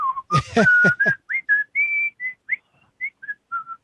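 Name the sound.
whistled tune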